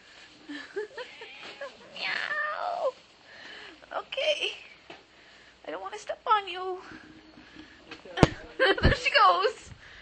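A cat meows several times, with drawn-out, whiny calls that rise and fall in pitch, separated by short pauses and soft rustling.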